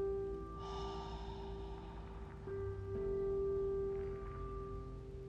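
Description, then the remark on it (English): A slow breath drawn in through the nose, followed by a softer exhale through the mouth, during a guided relaxation breathing exercise, set over a steady, sustained tonal drone with no talking. “We're going to take a few moments just to breathe in through our nose and out through our mouth.”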